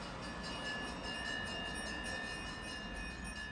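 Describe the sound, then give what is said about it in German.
A steady, unbroken roar of heavy traffic on a broad thoroughfare lined with grey house facades in Berlin-Kreuzberg, Germany: a dense low rumble with a faint high hum running through it, holding an even loudness throughout with no voices. “Eine breite Durchgangsstraße in Berlin-Kreuzberg. Graue Häuserfassaden, starker Verkehr, nichts, was zum Verweilen einlädt.”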